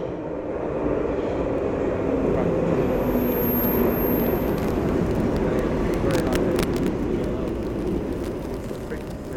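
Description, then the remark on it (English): A loud, continuous roar of electrostatic interference recorded aboard an underground train, thick with harsh distorted crackle, with sharp bursts of static flickering through toward the middle before the noise eases slightly. “So we've just been recording on an actual underground train, and the noise that we were encountering on the platform became a lot more frantic, pretty much totally distorted sorts of sounds, total interference.”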